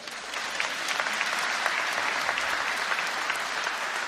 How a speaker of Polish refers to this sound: a największe brawa były oczywiście dla pracowników Radia Zachód